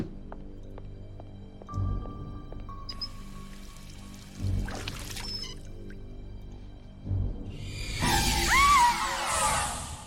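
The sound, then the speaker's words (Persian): Scattered water drips and soft wet squishes, then a loud rush of spraying water starts in the last couple of seconds as a shower at a school is turned on. “اومده بودم حمام کنم، آب خونم رو هنوز بس نکردن.”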